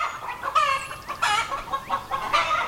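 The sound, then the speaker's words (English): A chicken clucks in a quick series of bursts, about four harsh, throaty calls in steady rhythm, clear with no voices present. “When chickens made their way to Europe, they were considered exotic and even holy.”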